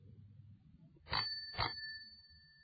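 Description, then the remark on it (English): The bell on Mark's bicycle rings twice in quick succession, each bright ding leaving a clear metallic tone that lingers and rings on after the strikes, fairly loud over a low background rumble. “It has a bell.”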